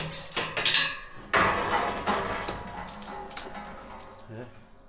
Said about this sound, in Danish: låser lige den op inden, så vi har den klar. Jeg er på vej ind i et skatkammer på en gård i udkanten af Grenå sammen med et ganske særligt makkerpar.